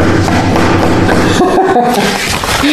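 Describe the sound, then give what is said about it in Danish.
Loud, steady banging on a table by people protesting at a meeting, with dull thuds following one another in a dense, continuous run for the whole stretch. “Og så det folk gør det jo ved, de tager deres skilt, og det sætter de op, og så banker man i bordet, ikke? Det er sådan her, det foregår.”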